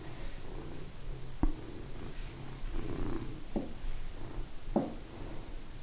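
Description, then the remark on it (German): A cat purrs steadily, a continuous low rumble with a few sharp clicks or taps breaking through it, and no one speaking. “Schnurr, schnurr, weiß.”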